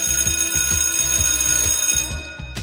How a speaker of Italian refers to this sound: Se ogni tanto sentite un campanello, non vi spaventate, è il segnale che l'argomento si deve chiudere e dobbiamo passare avanti.